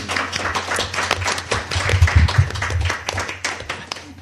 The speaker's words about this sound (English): And thank you very much to everyone who came along in the audience. Give yourself a clap.